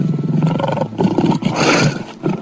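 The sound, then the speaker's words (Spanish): A lion roars loudly, a deep rumbling growl that swells, breaks briefly, then surges again into a raspy, sustained roar with no voices present. “Un perro, mediante ladridos, nos puede avisar de un peligro, o el rugido de un león nos indica que estamos en su territorio.”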